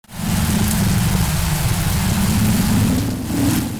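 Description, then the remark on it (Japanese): A violent mountain wind storm striking Dewa Province roars without pause, a deep rumbling wind gusting under a steady hiss of lashing rain, loud and continuous with no voices. “しかし外はその思い以上に山風が激しく吹き荒れるのでありました。”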